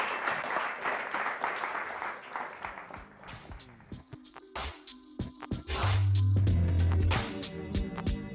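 An audience breaks into steady, dense applause that thins into scattered claps after a few seconds, as music with a strong low bass tone comes in and takes over.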